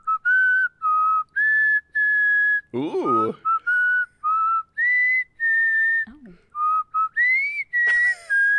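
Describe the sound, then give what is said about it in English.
A person whistles the Happy Birthday tune, clear sustained notes in a steady melodic phrase, with a brief spoken exclamation breaking in partway through. “Okay, let's hear it. I'll do like happy birthday.”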